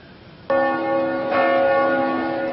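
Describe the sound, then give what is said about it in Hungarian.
The bell of the great church in Debrecen rings loud in the morning, calling members of the constitutional synod: two strikes about a second apart, each leaving a rich humming resonance that lingers and overlaps. No voices are heard. “Délelőtt a nagy templom harangjának hívására az alkotmányozó zsinat tagjai a református kollégium épületéből ünnepélyesen átvonultak a Kossuth térre.”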